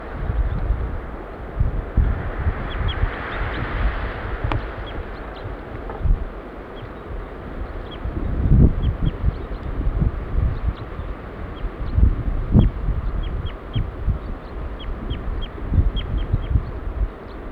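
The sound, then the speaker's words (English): A female bird gives short, high flight calls, repeated irregularly throughout and faint beneath strong, gusty wind rumble; no one speaks. “Female giving flight calls now.”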